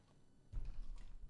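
A person takes a big gulp of water, quiet, with a couple of soft, muffled swallowing thuds around the midpoint and no talking.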